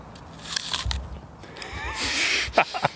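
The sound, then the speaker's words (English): Crisp, crunchy bites into an apple: a few sharp, crackly snaps with brief pauses between them, followed by a burst of louder crunching chews near the end. “He concludes his point with a nice crunchy apple bite.”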